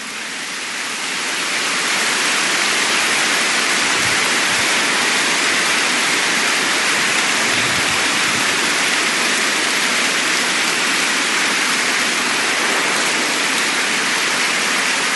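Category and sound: crowd, audience clapping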